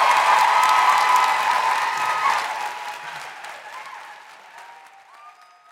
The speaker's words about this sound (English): So can I just say an enormous round of applause